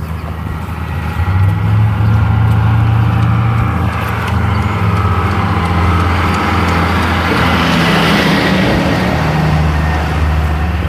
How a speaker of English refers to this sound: Bus.